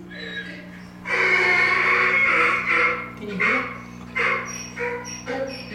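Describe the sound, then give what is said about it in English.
A pet donkey in a barn outside Phoenix brays in a long, loud, harsh blast followed by several shorter rasping bursts, rising and falling in pitch, over a low steady hum. “I could listen, my donkey. Donkey.”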